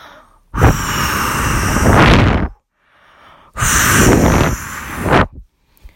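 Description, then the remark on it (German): Someone blows air through their mouth to imitate wind or a storm outside: two long, loud, breathy whooshes, each about two seconds, separated by a short pause, with no talking. “Versucht mal nachzumachen, wie es sich anhört, wenn es draußen windet.”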